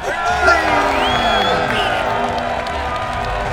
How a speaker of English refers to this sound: And the crowd went wild.